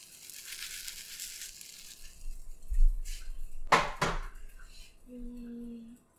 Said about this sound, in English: Oh my gosh, I wish I could bring the mic over here. You can hear the sizzle. Here, you can listen to the sizzle. This is the sizzle. I brought my pan over.